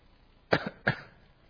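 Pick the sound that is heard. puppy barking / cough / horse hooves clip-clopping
cough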